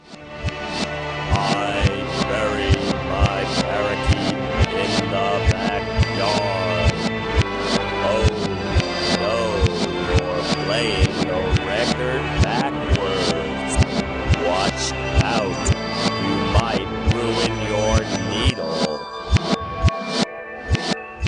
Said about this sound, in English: Oh no, you're playing the record backwards.